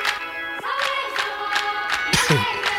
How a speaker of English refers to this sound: Okay, sometimes you just gotta clap your hands double time.